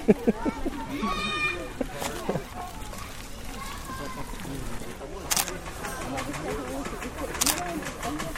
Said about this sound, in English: That sound is the pig scratching itself on the fence. A scrubbing sound, did you hear that?